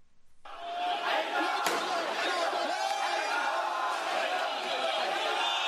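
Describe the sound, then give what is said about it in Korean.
A large crowd of Iranian protesters shouting and chanting together in the street in Tehran, denouncing the Saudi Arabian government over its execution of nearly 50 Shia Muslims, including a prominent Shia cleric; a loud, dense roar of many voices that starts abruptly and holds steady, with a sharp bang early on. “네, 이란인들이 수도 테헤란에서 사우디아라비아 정부를 비난하며 시위를 벌이고 있는 소리입니다.”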